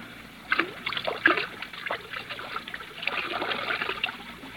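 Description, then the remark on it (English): Whiskey pours from a half-full bottle in a steady trickle with a few splashy surges as most of it is poured out, running for several seconds with no voices. “Ah, there's the whiskey, still half full. Pour most of it out, so that it will look as though we had even more to drink.”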